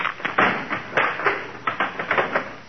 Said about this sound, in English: Oh, darn it, that's the third chair he broke this week.